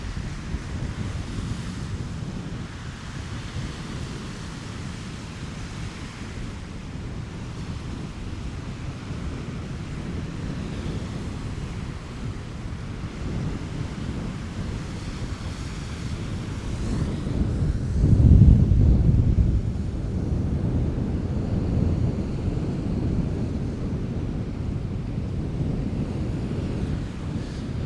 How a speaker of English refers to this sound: Now, you know, this is a rather small lake. It's not huge. I mean, it's big, but it's not a huge lake. But yet, there are still fairly choppy waves there. As you can hear, they're pretty loud. And it's very windy.